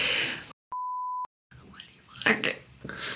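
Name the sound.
telephone beeping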